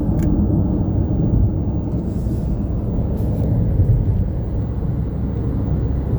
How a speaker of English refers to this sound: And I'm on the highway.